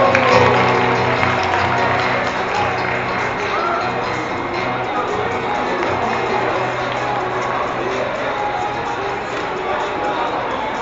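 A crowd applauds steadily for about eleven seconds, a dense, even wash of clapping mixed with scattered cheers and shouts, holding at a fairly loud level throughout.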